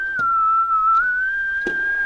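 A steady, sustained whistled tone with a breathy, hollow resonance, whistled into a saxophone while a fingering makes the tube resonate the same note as the whistle, holding one pitch while soft key clicks tap at a few points.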